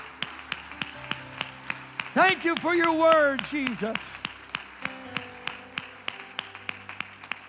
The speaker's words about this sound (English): Clap your hands to the Lord and let's praise Him together.